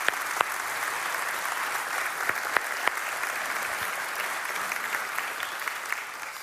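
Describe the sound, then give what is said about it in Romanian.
An audience in a church applauds steadily for a visitor who came from Canada to Romania, a dense wash of many hands clapping at an even volume throughout, with a few sharper individual claps standing out. No one speaks over it. “Hai să-i aplaudăm.”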